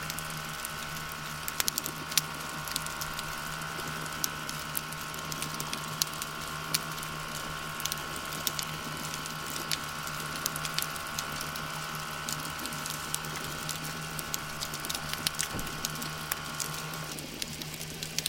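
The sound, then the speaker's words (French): Dense, continuous crackling and snapping of shrimp recorded with two hydrophones about 2 metres underwater in a small marina, a fizzing patter of countless tiny clicks over a steady low hum and a sustained mechanical tone from a more distant construction site in the port. “Vous entendez le son crépitant des crevettes et quelques sons plus lointains d'un chantier dans le port.”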